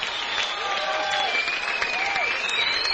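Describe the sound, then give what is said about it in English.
A large audience at a live performance at the Berkeley Performing Center, up on its feet, claps steadily and loudly throughout, with whistles and excited cheers for more rising above the dense wash of applause. “The whole place is up on their feet, cheering for more.”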